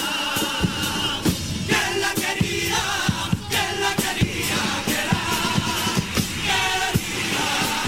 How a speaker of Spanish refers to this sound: Eso, aplauso del Falla.